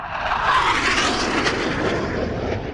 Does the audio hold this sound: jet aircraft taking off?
yes